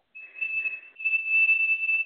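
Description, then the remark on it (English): A steady, piercing high-pitched whistle, mouth-made to imitate hearing aid feedback, holds for about two seconds with a brief dip midway and a breathy edge. No talking. “My mother can't hear my father and the whistling from the hearing aids, you know.”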